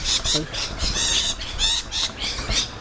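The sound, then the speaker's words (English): Parrots squawk noisily and continuously in harsh, overlapping bursts, loud, forming a raucous flock chorus with no clear pauses. “Oh no, they're parrots.”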